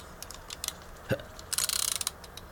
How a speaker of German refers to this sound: Und jetzt tickt es. Wie bei einer Eieruhr.